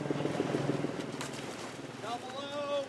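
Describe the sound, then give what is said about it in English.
A helicopter passes overhead at a military airfield near Long Beach, California, by an outdoor pool, its rotor throbbing in a fast, steady pulse through wind-blown outdoor noise, while high-pitched voices of kids splashing in an adjacent pool call out toward the end. “Their outdoor practice pool is at a military airfield near Long Beach, California, where kids splash in an adjacent pool and helicopters fly overhead.”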